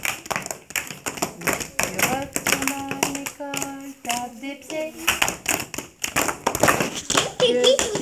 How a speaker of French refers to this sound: Si tu retournes à l'école, tape des mains. Que tu sois petit ou grand, effrayé ou très content. Fais comme moi, comme les copains, tape des mains.